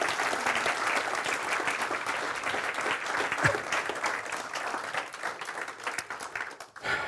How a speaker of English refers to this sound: These people have done a wonderful job, and now you can give them a round of applause, if you would.